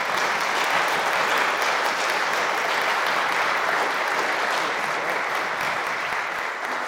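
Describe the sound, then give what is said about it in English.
An audience applauds the 2023 graduates steadily for about seven seconds, a dense, even wash of many hands clapping at constant loudness with no voices breaking through. “These are our 2023 graduates, and I think we should all give them a little applause.”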